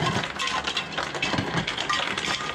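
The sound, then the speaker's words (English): Ice cubes tumble from a refrigerator dispenser in a steady, rattling clatter of hard clinks and knocks that continues for a few seconds with no pauses and no voices. “You can see that the refrigerator is turned on if I wanted to get ice.”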